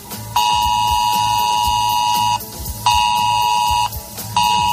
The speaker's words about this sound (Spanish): Segunda, desde hoy hasta el 16 de noviembre, no te asustes si de repente en tu teléfono móvil empieza a sonar una alarma como esta.